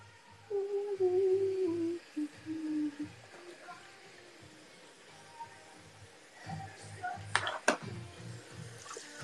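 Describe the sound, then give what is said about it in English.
A tap runs with a steady hiss of water that is not getting warm, while a few louder knocks and clatters break through near the end. “Why isn't the water getting warm?”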